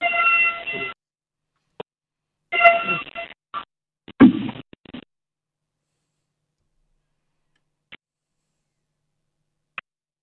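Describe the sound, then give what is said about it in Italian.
A train whistle in Bologna sounds as a siren calling for a minute of silence for the massacre of 45 years ago, giving two short, harmonic blasts, followed by a few scattered bumps and rustles before the scene falls almost silent. “Avete sentito il treno che fischiava per chiamare con la sirena al silenzio.”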